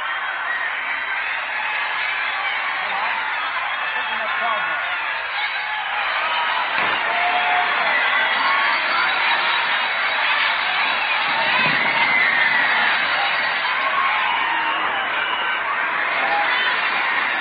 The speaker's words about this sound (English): We'll let you listen to more of this crowd. Come on downtown and enjoy VJ Day.